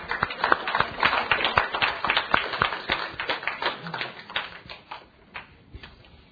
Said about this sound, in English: All right. Let's give the Lord a nice hand clap.